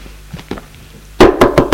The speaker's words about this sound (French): on frappe à la porte. Oui, c'est la bonne.